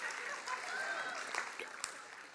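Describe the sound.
An audience applauds steadily, a dense wash of many hands clapping, sustained at an even level throughout, with faint crowd voices mixed in.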